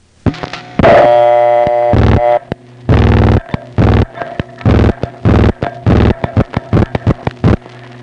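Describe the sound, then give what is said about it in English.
A busy crossbar telephone switch in Forest Hills, handling outgoing long-distance calls under heavy traffic, clatters with bursts of relay clicking and clunking, while steady multifrequency signaling tones beep and overlap in the background throughout. “From the sheer number of MF tones in the background of the recording, you can get some sense of the huge amount of traffic that's being handled.”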